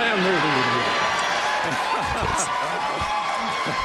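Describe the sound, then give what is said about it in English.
A large audience cheers and applauds loudly and steadily at an Apple product event introducing the iPad, a dense wash of clapping and excited voices with a few whoops rising out of the crowd noise; the cheering comes from Apple retail employees. “Clearly, now we know where the cheers are coming from. It's all retail employees.”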